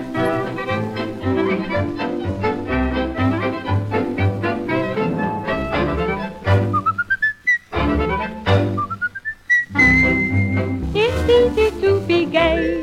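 A bright, melodic whistle swoops upward in sliding notes over a full band accompaniment, rising above the music in a few short phrases partway through the song.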